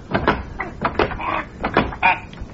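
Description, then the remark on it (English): A door being rattled and tugged against its lock, with a series of about eight uneven wooden clunks and rattles over a couple of seconds. No voices are heard. “The door's closed. Well, open it.”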